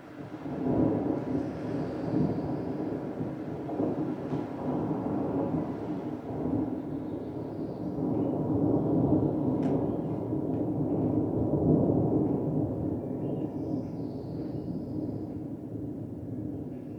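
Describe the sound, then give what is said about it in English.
A long, deep roll of thunder rumbles steadily for the whole stretch, swelling and easing in waves as it moves left and right across a valley, with no voices present. “So the thunder is really nice because it actually moves left and right across the valley.”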